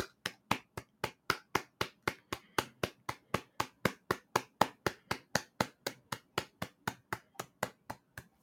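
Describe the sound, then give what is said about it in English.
A steady round of clapping in a studio for Gillian Keegan, sharp even claps at about four per second, continuing for several seconds with no voices over it. “Little clap there for Gillian Keegan, who does work really hard, and no one thanks her.”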